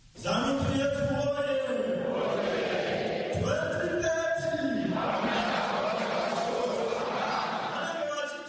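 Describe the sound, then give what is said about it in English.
Members of Zimbabwe's ruling ZANU-PF party chant loudly in unison at party headquarters in Harare while awaiting President Emmerson Mnangagwa, many voices rising and falling in a steady, sung rhythm, with a broad roar of voices underneath that holds throughout. “Chants by members of the ruling ZANU-PF party echo in the air as those gathered at party headquarters await the arrival of President Emmerson Bambuzo Mnangagwa.”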